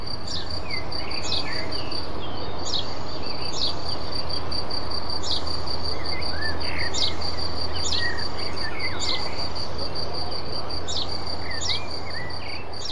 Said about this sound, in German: Dieses laute, eindringliche Zirpen, das kommt von einer Feldgrille, eine Art, die vor allem im süddeutschen Raum lebt und recht schreckhaft ist.